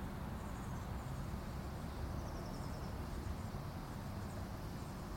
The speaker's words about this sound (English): So, the tree behind me in my neighbor's yard is full of birds. And the tree off to my right, which is one of the big trees that lines Capitol Avenue down there a ways, is they were noisy a few minutes ago.